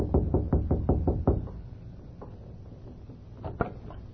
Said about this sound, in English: They saw Lem Foster rapping on the door.